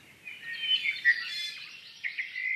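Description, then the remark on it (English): An introduced, non-native bird sings a fast, continuous warbling song of bright chirps and trills, clear, with no voices and little background noise. “They're a great example of how non-native bird species can quickly expand into unoccupied niches”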